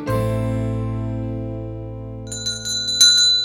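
A metal bell above the door of a small bookshop jingles, opening with a loud resonant ring that slowly fades, then a few bright, quick tinkles near the end as it swings. No one speaks.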